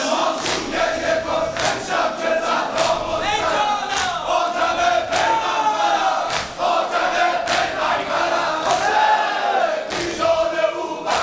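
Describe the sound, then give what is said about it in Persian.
A large crowd shouts together in unison in answer to a call for everyone to shout, many voices blending into a loud, sustained roar with rhythmic surges and chant-like pitch that runs without a break. “همه فریاد بزنند که زهرا مستر است.”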